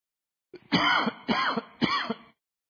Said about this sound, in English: Hang on just a second, I'm going to cough.